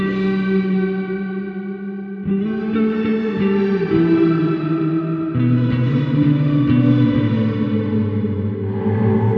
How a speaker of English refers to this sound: And then this is a massive reverb, Mr. Black from Portland, the Eterna.